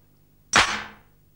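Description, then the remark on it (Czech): A single loud, sharp knock on a door, a bright crack that rings out and fades over about half a second, with no voices around it. “Ha, už klepe. Dále.”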